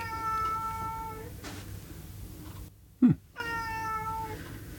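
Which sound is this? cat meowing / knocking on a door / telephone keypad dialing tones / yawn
cat meowing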